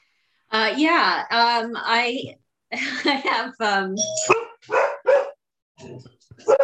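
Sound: dog barking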